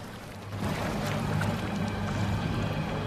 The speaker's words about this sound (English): The foal splashes into the river and immediately runs into trouble, stumbling and nearly falling over. She manages to keep her feet and pushes on into the deepening water.